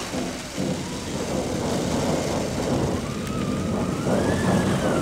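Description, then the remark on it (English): A theatrical storm effect at the Bristol Old Vic theatre in England, with wind and rain effects joined by a Thunder Run. A steady, full rumble of thunder blends with rushing wind and rain, with a thin whistling tone sliding up and down over it, and no voices. “And at some point the thunder will go.”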